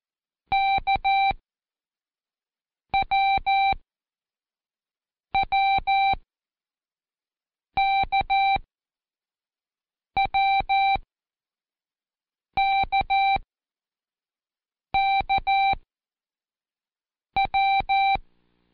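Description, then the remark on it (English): Eight short bursts of coded electronic beeps play as Morse-style signals for the letters W and K in the order K-W-W-K-W-K-K-W during a listening exercise. Each burst is a quick cluster of mid-pitched tones, evenly spaced with silent gaps between them and no talking. “You should have written K-W-W-K-W-K-K-W.”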